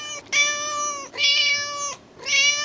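A cat meows three times in a row, each call long, drawn-out and strongly tonal, with the last one cut short. The meows are fairly loud and there is no talking.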